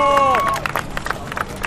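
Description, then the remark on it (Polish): A crowd claps and cheers in a dense, irregular burst of applause, steady throughout, with a brief high tonal sound at the start, welcoming the arrival of the fourth Independence Relay (sztafeta niepodległości), with participants from Łuków, Wiśniew and Sielce. “Witamy czwartą sztafetę niepodległości. Gorące brawa.”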